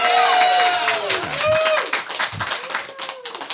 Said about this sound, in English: When you agree with my decision, I want you to cheer. Give that a shot right now.